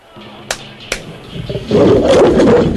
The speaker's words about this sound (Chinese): 啊！哇哇！喂，有只狮子啊，狮子啊，咩只狮子走嚟噶？喂，走啊！喂，救命！ 系啊，佢啱啱喺非洲大草原新鲜运到噶。